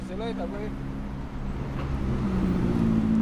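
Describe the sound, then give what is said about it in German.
Steady low engine rumble and road noise from inside a taxi riding through city traffic back to the city centre, with traffic sounds around and a few chirpy voice-like tones early on, the hum growing slightly louder toward the end. “Der Taxifahrer, der mich zurück in die Innenstadt bringt, ist eigentlich auch kein Taxifahrer.”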